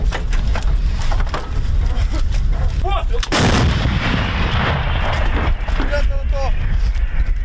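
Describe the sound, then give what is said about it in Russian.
An M777 155 mm howitzer of the Armed Forces of Ukraine fires once on the front line: a single heavy, booming blast that rolls into a long rumble, with voices and a steady noisy background around it. “Гармата М777 калібру 155 мм, в народі три топора, три сокири.”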